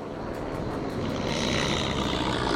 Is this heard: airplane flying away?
yes